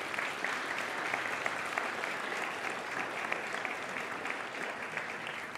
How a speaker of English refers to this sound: It's just been amazing. So could we just maybe give them a round of applause?